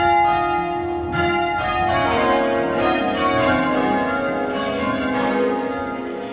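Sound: church bells being rung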